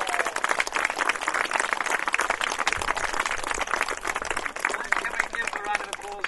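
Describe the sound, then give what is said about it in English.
A crowd applauds the competitors at a school sports day steadily for several seconds, dense overlapping clapping at a constant loud level, with indistinct voices and cheers mixed into the noise. “Everyone's done really well, though, so let's give all the competitors a big round of applause.”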